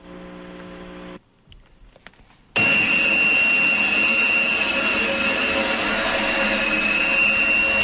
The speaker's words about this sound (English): playing sound of what underwater life, whales, dolphins, and fish hear when the Navy take part in this sonar program